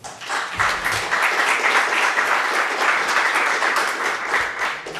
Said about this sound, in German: Applaus.